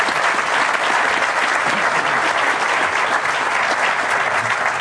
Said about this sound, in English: And so a warm round of applause for Senator Paul Bettencourt, one of us.